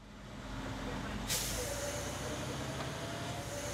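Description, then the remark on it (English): A fire truck's air brakes release one sharp, loud hiss partway through, over the steady low rumble of the idling engine. No one speaks. “Back out on the call, remember, the Premier Inn, the fire truck is now en route to the hospital following the ambulance, and a new call comes over the radio.”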